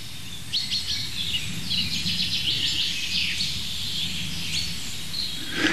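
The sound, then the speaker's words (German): A bird repeats a sharp, bright 'pink' call in quick succession, sounding a little agitated, against steady outdoor background noise with a low rumble. “Pink, pink, pink. Ist irgendwie ein bisschen aufgeregt, der Kollege.”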